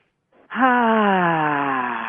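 A brief, quiet inhale, then a long, loud exhale voiced as a steady moan that slowly drops in pitch, with no talking; one demonstrated deep breath from a breathing exercise of 10 such breaths.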